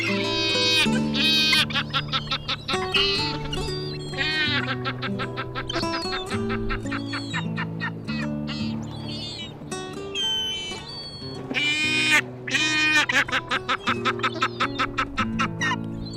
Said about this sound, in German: Das war die Steppenmöwe.